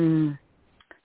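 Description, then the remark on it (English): A single short, voiced sneeze bursts out, then two faint little clicks follow in the quiet afterward. “Bless you.”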